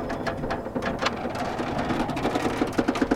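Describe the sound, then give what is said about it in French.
Continuous metallic rattling and clanking, like scrap metal jostling, with dense irregular clatters that grow into sharper, more rhythmic knocks toward the end. No voices. “Soudain, un bruit de ferraille retentit.”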